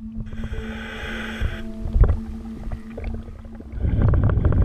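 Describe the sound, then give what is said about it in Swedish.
Muffled underwater audio from a diver's camera scanning the bottom of Lafssjön (Lafsen), a small lake surrounded by dense conifers, in murky brown water: a steady low hum with a droning tone, scattered clicks and bubbly knocks, and a denser gurgling rush of bubbles building toward the end. No one speaks. “En dykare utrustad med kamera skannar av botten. Vi hör ljudet från inspelningen.”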